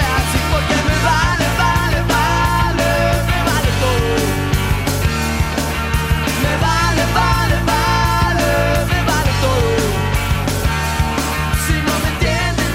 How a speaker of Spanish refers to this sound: Saludos a mi invitada, una mujer muy especial, la vicepresidenta Francia Márquez, que suena la primera canción y me dice que le recuerda.